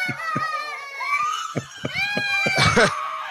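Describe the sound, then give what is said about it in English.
Several children at a child care center in Hamilton, Mississippi scream and shout over one another, high-pitched wails overlapping with a loud burst near the end, with a bustling playground-like background of kids' voices. “He played the screaming children of the Little Blessings Child Care Center in our backyard.”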